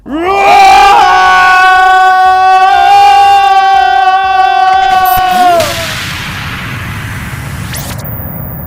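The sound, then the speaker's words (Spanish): Several voices yell together in one loud, sustained shout. It swoops up at the start, holds steady for about five seconds, then trails off into quieter background noise. “Pero sí, ¿cómo es el grito papiroterápico antipandémico? ¡Inco, grito!”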